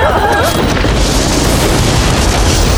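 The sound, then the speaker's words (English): A loud, sustained explosive boom from a lightning bolt striking the engine of a helicopter's main rotor during a storm, a dense crackling roar filling the whole clip, with brief wavering cries at the start. “bolt struck the engine of the helicopter's main rotor.”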